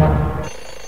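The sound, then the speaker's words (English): A loud, harsh alarm clock blares for about half a second on a cold, grey morning, then cuts off and leaves a faint, fading ring. The brief burst has a buzzy, klaxon-like tone, and no one speaks. “The alarm goes off like a klaxon.”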